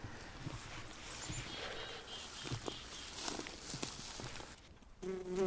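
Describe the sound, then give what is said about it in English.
Footsteps crunch through vegetation in a sunlit meadow at about 65 degrees with faint birdsong, then the buzz of a bumblebee on a pink Monarda (bergamot) flower swells loud in the final moment. “There's a beautiful little bumblebee on the pink Monarda flower.”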